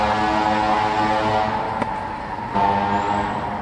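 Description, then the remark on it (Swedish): A steady low rumble of natural road traffic some distance away hums in the background, a continuous engine drone with a brief sharp click partway through and no voices. “Lade ni till extra trafikljud för att höra hur försökspersonerna reagerade på det, eller var det den här trafiken vi hör en bit bort här nu?”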